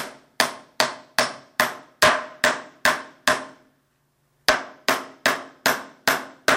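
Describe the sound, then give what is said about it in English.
Steady hammer blows drive a long nail into wooden boards to join three boards together, about a dozen sharp strikes in an even rhythm, broken by a brief pause before the pounding resumes. “Hammer it in a long nail so that now the two boards, all three boards are together, right?”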